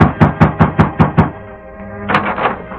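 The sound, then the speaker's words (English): Seven quick, sharp raps on the wooden door of a ranch house in an even rhythm, loud. After a short quiet pause, a single louder thud or rattle follows, with no one talking. “The masked man halted in front of Amos Todd's ranch house, dismounted and rapped on the door.”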